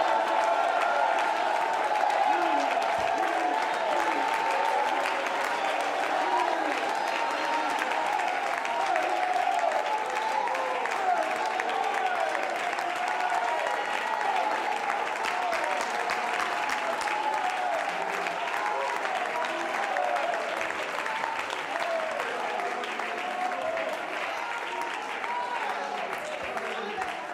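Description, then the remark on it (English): A large audience applauds and shouts praise, a dense, steady roar of clapping mixed with loud voices that holds strong for the whole stretch, fading slightly toward the end. “If you believe it, would you roar with your praise? Would you shout?”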